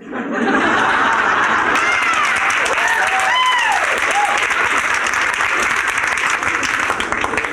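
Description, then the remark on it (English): A crowd including women applauds loudly and steadily, a dense wash of clapping that swells in and holds, with scattered whoops and cheers rising above it and a little laughter mixed in. “Somehow the women aren't supposed to be the ones clapping at us.”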